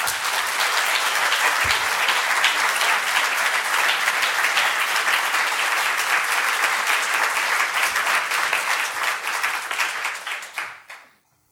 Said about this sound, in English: That was fabulous, wasn't it? Let's have a second round of applause.